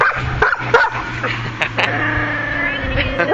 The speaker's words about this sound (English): Who is it, Lulu? Who is it? That's her cue to bark.